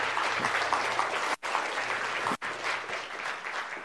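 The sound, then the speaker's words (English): A crowd at a church baptism service applauds steadily, a dense wash of many hands clapping at a constant level throughout, with two brief sharp cutouts in the sound. “Give them a cheer for them.”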